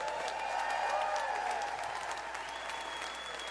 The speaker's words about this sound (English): How about another big round of applause